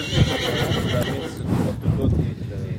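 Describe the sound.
A horse used for horse-drawn carriage rides whinnies loudly, a drawn-out, wavering neigh that fills nearly three seconds, with some background voices mixed in.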